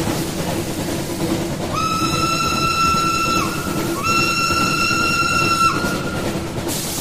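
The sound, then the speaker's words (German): A steam train to Kent at a station platform on an early winter morning sounds two long, shrill whistle blasts in quick succession over a steady, low rumble of engine and track noise, with no voices. “Eine hastige Tasse Tee am Bahnhof konnte einen Teil meiner Lebensgeister wecken, ehe wir zum Bahnsteig eilten, um den Zug nach Kent zu erwischen.”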